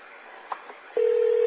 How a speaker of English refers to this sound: It's ringing.